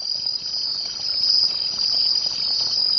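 A steady, high-pitched cricket chorus trills continuously, a dense and even buzz of chirping insects with no voices or other sounds alongside.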